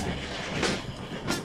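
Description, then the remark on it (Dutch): A steady, fairly loud rumble of a train to Paris running on rails, with two brighter clacks about half a second apart riding over the continuous noise. “Dit is toch de trein naar Parijs, hè?”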